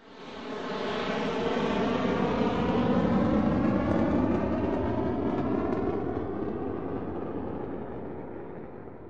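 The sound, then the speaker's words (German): A steady, loud airplane roar fills the whole stretch, a broad droning engine rumble with faint shifting tones that swells early on and eases slightly toward the end. No one speaks. “In den großen Ferien flogen sie mit dem Flugzeug nach Ägypten.”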